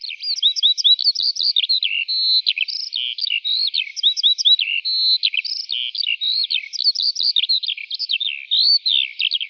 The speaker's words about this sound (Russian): И жаворонок начал подниматься выше и выше, и вдруг сам не знал, как запел.